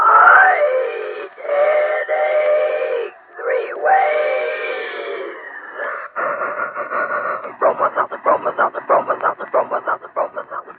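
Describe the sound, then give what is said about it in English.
A Bromo Seltzer train sound effect: a train whistle sounds several long, chord-like blasts that bend and slide in pitch, then gives way to a rapid, rhythmic chugging that grows louder and more pronounced. “Thank you, Dick Joy, and a good old Bromo Seltzer train.”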